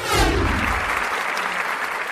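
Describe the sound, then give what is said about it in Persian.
A large audience claps steadily in Tehran's Vahdat Hall as the curtain rises and a musician and his musicians come on stage for the performance. A dense wash of many hands swells at the start, then holds at an even, moderately loud level without any voices. “سکوت تالار وحدت را فرا گرفته تا اینکه با بالا رفتن پرده و صدای تشویق مردم، استاد … و نوازندگان به روی سن آمدن”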